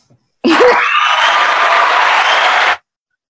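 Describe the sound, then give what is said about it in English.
A canned burst of crowd applause and cheering from a soundboard kicks in abruptly, holds loud and steady for a little over two seconds, then cuts off sharply, with no talking over it. “Applause, soundboard.”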